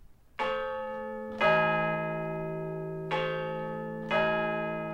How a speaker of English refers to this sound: So instead, here are the chimes of Big Tom from St Paul's Cathedral.